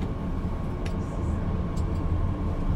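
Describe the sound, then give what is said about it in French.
A steady, deep rumble of a train rolling along rails, continuous and even, with a few faint higher clicks and squeaks over the low drone. “Le train avale les rails. Ça glisse. C'est doux.”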